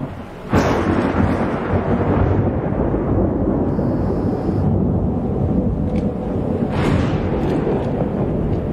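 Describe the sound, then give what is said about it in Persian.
A heavy downpour starts abruptly after a moment of quiet and roars steadily and loudly throughout, with a deep rumbling undertone like thunder beneath the dense hiss. “هر جوری داره بارون میاد.”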